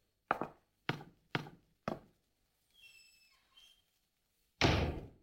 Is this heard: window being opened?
yes